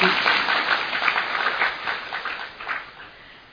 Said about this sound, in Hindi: तो इसीलिए उसका भी भाग्य है जो पहली बार मधुबन में रहने का चांस मिला है। वो भी ताली बजाओ।